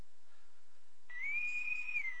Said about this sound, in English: And that's our whistle for the day. That's a Navy whistle, if you don't know, and you're saying, what is going on with this guy? That is our Navy whistle of the day